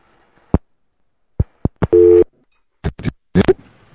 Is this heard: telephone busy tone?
yes